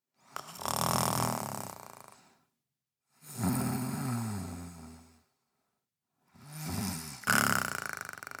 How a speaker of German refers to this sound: Doch … hört man schon leise schnarchen.